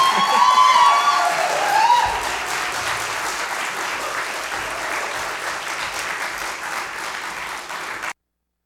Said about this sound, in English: So let's make him feel, let's cheer like he's a rock star again, shall we?